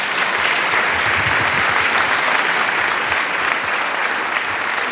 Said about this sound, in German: Kleinen Applaus für Ricardo.